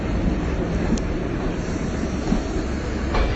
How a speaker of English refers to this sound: It's quite cold in Lyon, especially on the platform. Grey day. But I've got a warm coat, and I shall rug myself up. I think I'm just going to pause this for a while until there aren't so many trains. That's a bit much to ask for at the main station.